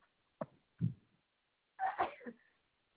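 A single sharp sneeze bursts out over a narrow, phone-like line during a customer support phone call, preceded by a couple of quick breathy catches and trailing off into a brief snuffle.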